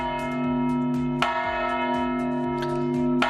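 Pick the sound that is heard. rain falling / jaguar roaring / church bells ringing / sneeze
church bells ringing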